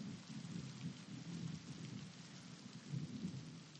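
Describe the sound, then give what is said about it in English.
Steady rain pours down in a continuous wash of hiss, with a low rumbling undertone like thunder rolling beneath it; no voices are present. “Let me just say it before this rain stops and we go back.”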